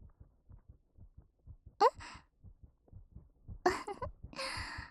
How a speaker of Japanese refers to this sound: いいですよ。まだ私の心音聞いてても。